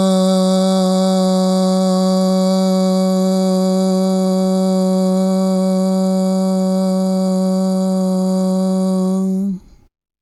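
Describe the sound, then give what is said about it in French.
A voice demonstrates a medium-pitched A sound, holding a steady "ah" vowel for nearly ten seconds. The note is loud, rich in overtones and unwavering, then cuts off abruptly. “Nous allons maintenant vous montrer un son A de tonalité moyenne.”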